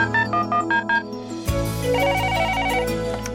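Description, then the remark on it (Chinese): A telephone rings in a quick series of short, bright electronic pulses for about a second and a half before a call to the Xian Xin He Yi phone-in program is answered, then cuts off as a steady musical bed fades in underneath. “欢迎收听线心合一电话连线。”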